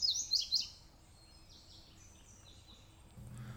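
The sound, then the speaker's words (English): A male indigo bunting on a leafless limb sings high, quick, bright warbly paired phrases across a hollow running off a mountain, and another indigo bunting answers; the song then fades quieter over a low outdoor hum, with a faint rumble near the end. “He pours bright, warbly doublets across a hollow running off the mountain, and another indigo answers.”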